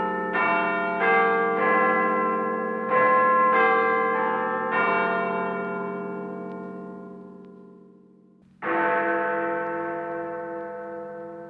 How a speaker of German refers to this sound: Die Glocke von Big Ben kündigt sozusagen das Tagesgespräch an